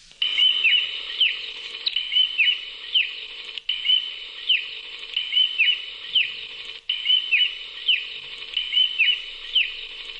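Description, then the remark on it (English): A steady series of high, thin peeping calls of a karari bird at night repeats in quick rhythm, with a faint buzzing hum beneath, continuing throughout with brief breaks and no one speaking. “So that's what a karari, at least as closest to, as what they sound like nowadays.”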